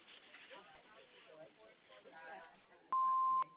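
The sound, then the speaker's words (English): A single steady electronic beep, like a voicemail answering machine tone, sounds loud and clear for about half a second after a stretch of muffled talking, then cuts off abruptly. “After the beep, please leave a message.”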